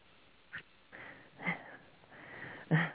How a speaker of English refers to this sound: Yeah, I had to cough.